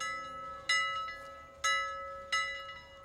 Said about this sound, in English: A metallic bell that would have awoken the deepest hypersleeper resounded throughout the cabin.